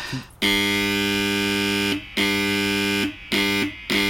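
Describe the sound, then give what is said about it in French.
A loud, harsh electronic siren blares to signal the end of school recess. It sounds in several long bursts with brief gaps, the first about a second and a half and the rest shorter. Its steady buzzing tone is rich in harmonics. Nobody speaks. “Ah, voilà la sirène qui nous annonce que la récré est terminée.”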